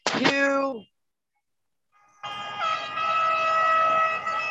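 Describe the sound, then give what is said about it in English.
A loud truck air horn blasts briefly as a group of trucks arrives, falls silent, then sounds again in a long sustained honk with engine rumble underneath. “Oh, we got a bunch of trucks coming in, you guys.”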